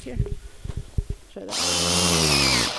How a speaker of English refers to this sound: She drills a little hole into the tree.